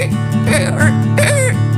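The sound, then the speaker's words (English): A voice imitates a dolphin chattering in a Christmas song about wanting animals, with two bursts of squeaky, warbling chirps that rise and fall in pitch, over a steady low backing drone. “I want a dolphin for Christmas, one that says,”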